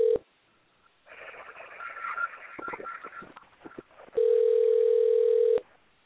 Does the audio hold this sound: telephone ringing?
yes